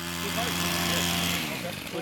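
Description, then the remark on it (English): Chainsaws drone steadily as a 20-person crew clears brush and cuts low-hanging tree branches along White Rock Ridge, in the mountains south of Carmel Valley. The buzzing motor holds a constant pitch with slight swells in intensity, echoing between towering trees. “On this day, the sound of chainsaws echoes between towering trees.”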